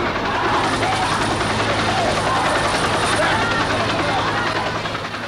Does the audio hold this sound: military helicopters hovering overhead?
yes